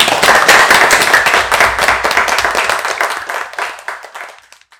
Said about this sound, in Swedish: Ska vi ge en applåd?